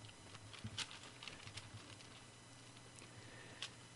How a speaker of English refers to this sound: And find the book of Jeremiah. If you hear my pages turning, you realize that I did not have it marked, or I didn't have it already pre-written.